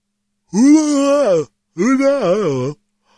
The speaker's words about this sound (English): Sorry, I'm trying to make myself yawn, and it's not working. That happens sometimes.